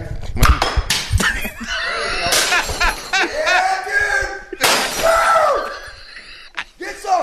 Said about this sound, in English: Why don't you just break something right now and let's hear it shatter? Well, okay, hold on a second. Throw something. Here, I'll just grab one little item here. I'm going to grab this little item here, okay?